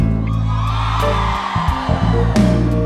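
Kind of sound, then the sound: crowd, women in audience screaming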